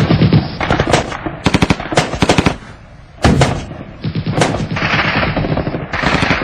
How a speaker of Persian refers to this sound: دشمن بچه های ما رو دید و مجردی که بچه ها لو رفتن شروع کرد به تیراندازی با انواع اقسام گلوله از ریز و درشت، حتی RPG 11 از روی نفر براش شلیک میکرد.